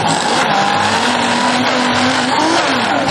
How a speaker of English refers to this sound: Are you going to switch it on for me? All right. Let's put it on lower. Go. And we blend it.